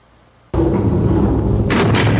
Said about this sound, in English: when you close out the Burke segment and you slam the door, how much does that door weigh?